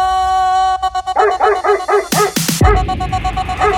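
A dog barks in a quick run of high, yappy barks, then lets out two louder, sharper barks before the yipping continues, close by over a steady tonal hum.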